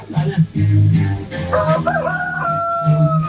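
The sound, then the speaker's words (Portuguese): A single rooster crows loudly, its call rising and then holding a long, drawn-out note before tapering off, over a low steady background rumble. “Filha, tem um galo aí cantando aí”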